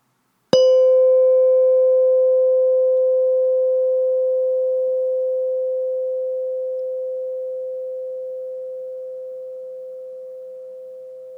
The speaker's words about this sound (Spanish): Ahora escucharás el sonido de una campana. Pon atención a ese sonido y date cuenta del momento en el que dejes de escucharlo.